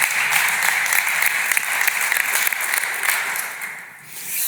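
A crowd claps steadily in a dense, sustained burst of applause that holds for several seconds, then briefly dips and swells again near the end, with no one speaking over it.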